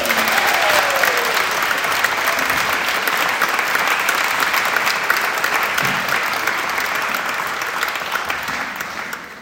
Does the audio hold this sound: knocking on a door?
no